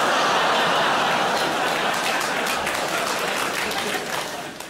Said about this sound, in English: I like the fact a child has applauded that very loudly. See, now there's a child in a green T-shirt.